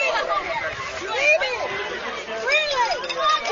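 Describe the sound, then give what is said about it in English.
Steady ballpark crowd chatter, a dense murmur of many overlapping voices with no single words standing out, holding at a moderate level throughout with small swells. “Crowd on the edge of its seat here.”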